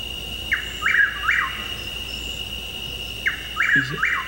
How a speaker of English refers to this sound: I think that sounds like it. I listened to Chuckwill. I had listened to the difference between the two, but I'm pretty sure it's a whippoorwill.